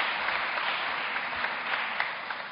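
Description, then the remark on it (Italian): A crowd claps steadily throughout, a dense, continuous patter of many hands with no voices standing out. “Grazie, un applauso che va a loro.”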